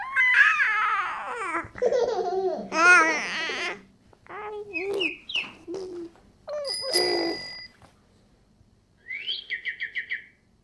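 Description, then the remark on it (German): A string of playful, bright electronic attention-getter sounds used by researchers to lure a distracted baby back to a test task: babbling vocal warbles, chirps, boings and a final quick burst of ringing tones, each short and clearly heard. “Um ein abgelenktes Baby wieder zur Testaufgabe zurückzulocken, setzen die Forscher sogenannte Attention-Getter ein, akustische Reize.”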